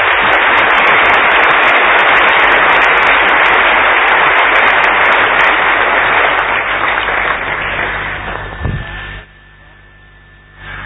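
A crowd claps loudly and steadily in a dense, continuous wash of applause that tapers off after about eight seconds, leaving a low electrical hum and a faint steady tone.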